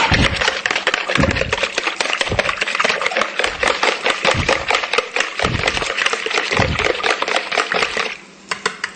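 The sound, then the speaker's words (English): Rapid, continuous scraping and clicking of a whisk beating a salad dressing seasoned with salt and pepper in a bowl, fairly loud, keeping a brisk steady rhythm for several seconds before briefly easing off near the end. “Whisk this together real quick.”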